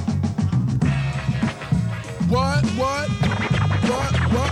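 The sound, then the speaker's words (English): Turntable scratching over a thumping hip-hop beat, with quick rising and falling pitched sweeps as the record is pushed back and forth, loud and rhythmic throughout. “Scratch it up one more time.”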